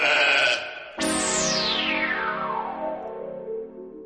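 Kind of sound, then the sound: animal, sheep bleating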